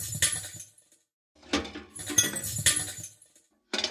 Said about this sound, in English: combined that with a sweeping noise, and that gives you the impression of someone sweeping up little bits of glass. And then, of course, it's, as I mentioned, that's the reverb from a trash can applied to just another glass impact.